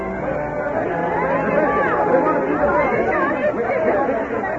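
A restless crowd waiting outdoors among hills fills the air with a steady, loud hubbub of many overlapping voices, some rising sharply in pitch like angry shouts echoing against the hills, with no single speaker standing out.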